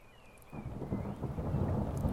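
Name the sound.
distant thunder rumbling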